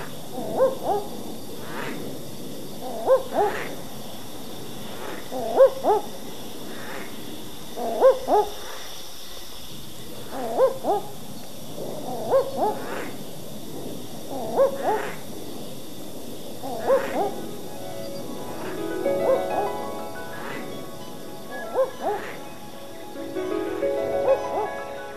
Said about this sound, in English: And finally, the seventh clip is of a male barking owl giving its territorial call, which has elicited a gruff warning call in response from a nearby squirrel glider, which is one of the owl's main prey species.